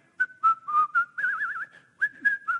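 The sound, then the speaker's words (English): A person whistles a bright, bouncy melody, with short chirpy notes and a wavering trill in the middle, no talking alongside. “You know that song, right? …?”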